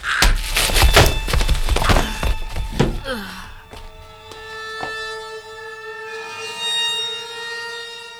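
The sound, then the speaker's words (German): A flurry of heavy, dull blows lands over about three seconds, striking the back of a head, then gives way to a sustained, shimmering ringing tone that lingers to the end. No voices. “Der Schlag kam wie aus dem Nichts, traf meinen Hinterkopf und die Welt explodierte in Millionen bunter Sterne.”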